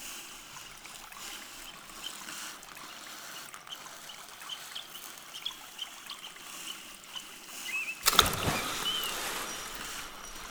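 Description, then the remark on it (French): A gentle river stream trickles steadily at low volume, with faint bird calls above it, then a louder burst of splashing water near the end. “Et les elfes conduisent Tommy sur la rivière magique.”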